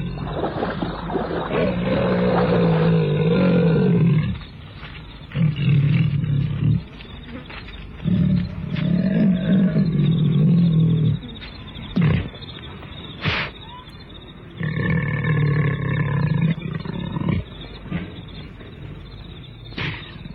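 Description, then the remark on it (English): A leopard attacks, holding its victim by the throat, snarling and growling in rough, throaty bursts, deep rumbling roars coming in waves with short pauses between them, loud throughout, with no one speaking. “He cannot cry out again, for the leopard has him by the throat, playing with him, worrying.”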